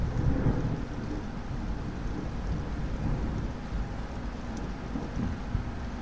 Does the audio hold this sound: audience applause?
no